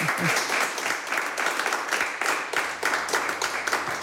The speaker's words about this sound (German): Aber wenn es Ihnen nichts ausmacht, nochmal einen großen Applaus